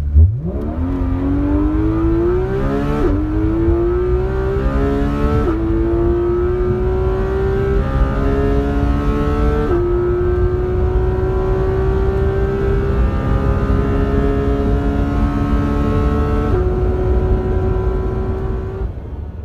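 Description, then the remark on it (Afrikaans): A powerful sports car engine with 383 kilowatts and 470 newton-metres of torque, reaching 0 to 100 km/h in 3.2 seconds, roars as it accelerates hard, its pitch climbing then dropping through several quick gear shifts, loud and continuous throughout with no voices. “Jy kyk na 383 kilowatt en dan kyk jy na 470 newtonmeters wringkrag. Beleef dit net en kry hoendervel saam met my.”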